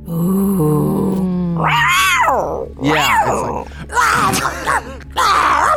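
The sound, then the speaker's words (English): After a few spoken words, a person imitates a puma or cougar with four loud, high-pitched growling yowls in quick succession, each rising and falling in pitch. “You learn the true name, and it is a series of very high-pitched growls, like the sound of a puma or cougar.”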